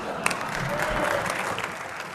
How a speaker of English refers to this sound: That's the last time you are applauding here.